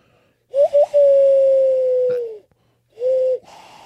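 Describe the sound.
A person imitates an owl with a long, steady hooting tone that dips slightly at the end, followed by a shorter second hoot after a brief pause.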